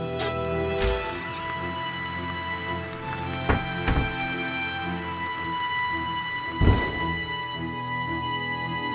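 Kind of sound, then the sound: nature, thunderstorm with rain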